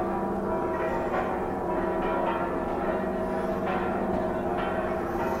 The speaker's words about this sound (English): The bells ring on over life, chatter, exchange, warning, morning, calling, being sure of themselves, their certain range.